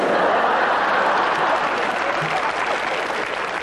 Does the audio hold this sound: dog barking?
no